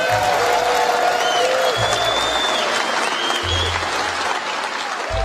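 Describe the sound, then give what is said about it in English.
A large audience at an NRA meeting applauds as executives, including Executive Vice President and CEO Wayne LaPierre, enter the stage: a steady, dense wash of clapping that holds at an even loudness throughout, with a few thin whistle-like tones and low thumps mixed in. “As the applause dies down, the audience can clearly see that resting on the table is a name tag for Oliver North.”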